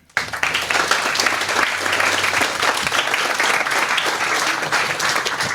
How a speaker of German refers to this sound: Ich würde sagen, wir heißen ihn schon mal herzlich willkommen mit einem großen Applaus.